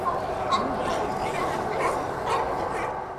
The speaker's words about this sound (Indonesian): Sangat menarik melihat semua singa laut itu. Sangat menarik dan mereka sangat berisik.